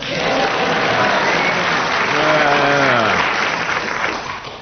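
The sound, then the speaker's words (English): An audience applauds steadily, a dense wash of many hands clapping at an even loudness, with a brief murmur of voices rising through the middle before the clapping tapers slightly at the end. “They all clapped.”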